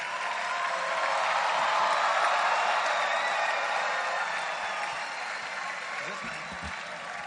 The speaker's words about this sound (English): Wow, why don't you put your hands together for her?